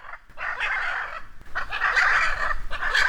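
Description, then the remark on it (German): Agitated hyacinth macaws, nesting in the trunk of a tree by a jabiru stork nest, call in loud, harsh, raspy squawks, upset by people standing at the tree; two long overlapping bursts with only a brief pause between them and no talking. “Nur die Hyazinth-Aras, die nisten im Stamm dieses Baumes und die sind jetzt gerade so ein bisschen außer sich, weil wir hier rumstehen.”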